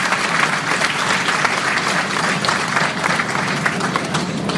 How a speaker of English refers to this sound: So please give those two gentlemen a round of applause. Even though they're nice.